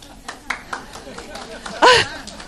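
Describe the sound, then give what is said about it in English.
Scattered, uneven clapping from a few audience members, with sharp separate claps over low murmuring voices, then a loud, brief vocal whoop near the end. “I didn't mean it for a clapping.”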